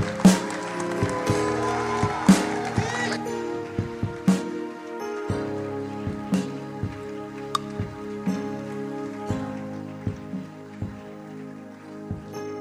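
A crowd claps and cheers to honor Bishop Kwegwa Mponsa, a former archbishop, over music with a steady drumbeat and sustained keyboard tones. The dense clapping is strongest at first, then thins out while the rhythmic music continues.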